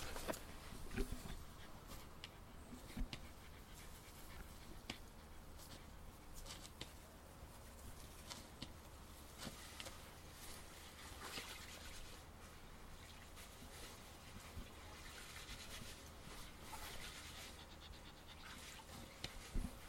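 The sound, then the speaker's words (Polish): A dog pants steadily and quickly for the whole stretch on a garden plot, with light scratching and rustling mixed in and faint birds in the background; no one speaks. “Brawo, grzeczny piesek.”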